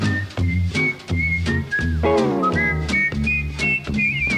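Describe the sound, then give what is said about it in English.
A group whistles a bright, catchy radio station jingle melody over a steady rhythmic musical backing, the tune rising and sliding in clear notes for several seconds. “Tune in all the while, 770 on your dial. WABC. Everybody whistle now.”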